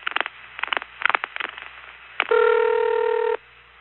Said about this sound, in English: Now, 656 is an office code right in the Winter Garden NX1. And so when Bill dialed a 656 number, we immediately heard the long series of pulsing before the number rang.